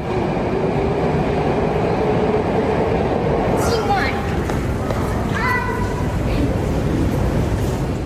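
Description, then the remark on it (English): A loud, steady roar of a train running through a tunnel deep underground in the Moscow metro, with brief metallic wheel squeals rising partway through and indistinct voices blended into the din. “So I'm going down into the Moscow metro because somewhere here, deep underground, a ghost of Russia's past has reappeared.”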